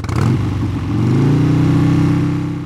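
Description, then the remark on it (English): A motorbike engine revs loudly, its buzzing pitch climbing quickly and then holding steady as a strong, continuous roar for a couple of seconds. “Watch out! It's a motorbike.”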